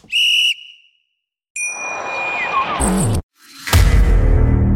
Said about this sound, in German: So, dann würde ich jetzt sagen, wir pfeifen jetzt mal zur Halbzeit wir hören uns dann gleich wieder, oder? Ja. Okay, ich pfeife mal.